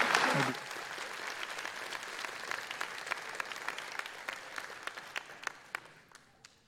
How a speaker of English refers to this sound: Church, let's give the Lord a round of applause.